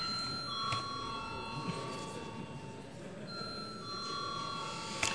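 A parliament voting bell, rung as deputies call for a vote on a proposal, rings continuously, a steady high-pitched electric tone with a slight pause partway through, sounding over a low murmur of background voices and shuffling.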